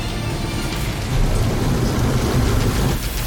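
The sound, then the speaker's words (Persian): A steady, full rush of water pours continuously out of a rainwater tank, with a deep rumbling low end and a hissing spray on top, fairly loud with no voices. “این مخزن آب بارونه.”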